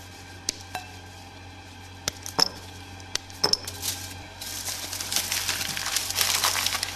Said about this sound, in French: Donc là, je remets les gants. On va casser le chocolat noir. Donc, on prend du chocolat noir pâtissier.